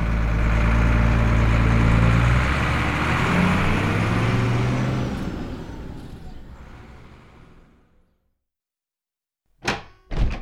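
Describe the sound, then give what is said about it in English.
A heavy bus engine rumbles loudly, then fades into silence as it pulls away toward town, followed by two sharp door-like thunks. “And he got on the bus and went into town.”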